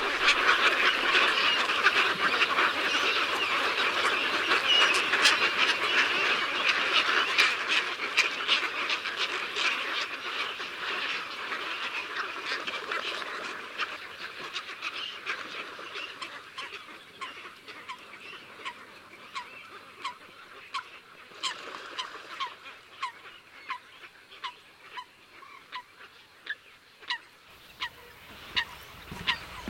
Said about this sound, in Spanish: Los gritos más agudos corresponden a los pollos en sus nidos.